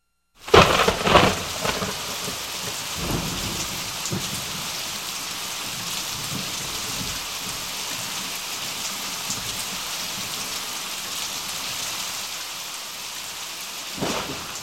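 Steady, heavy rain hisses throughout while low thunder rumbles, with a loud crack near the start and another swell of thunder at the end. No voices.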